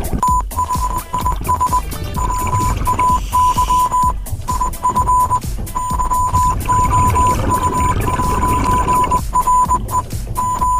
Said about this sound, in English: Can you guess what the Morse code message is that they're tapping out to the alleged Russian submariners that are coming illegally into Swedish waters? Have a listen. The singing sailor sends out a Morse code to any visitors nearby.